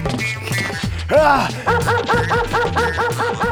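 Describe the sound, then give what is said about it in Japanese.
A dog that has run up and bitten a person barks and yelps in quick, agitated bursts, with a sharp rising yelp near the start followed by a rapid run of repeated barks. “こら犬、犬が離すっす。”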